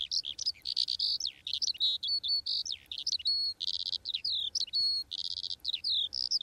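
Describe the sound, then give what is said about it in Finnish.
A skylark sings a continuous, rapid stream of high warbles, trills and chirps, bright, with no pauses and no voices over it. “Minulle tulee ensimmäiseksi mieleen kiuru, eli leivo, joka riemullisesti laulaen kohoaa taivaan sineen.”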